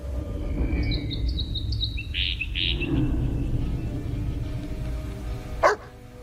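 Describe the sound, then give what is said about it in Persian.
A small bird chirps and sings in a quick run of bright, high notes over a steady low background rumble, followed by a single sharp burst of noise near the end. “رکس انگار از صداش خوشش میاد.”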